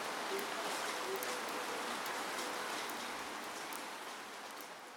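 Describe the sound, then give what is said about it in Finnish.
Steady rain falls in a dense, even hiss, with occasional sharper drop ticks standing out. It stays fairly loud throughout, easing slightly toward the end, with no voices. “Viilentää kuin sade helteiden jälkeen.”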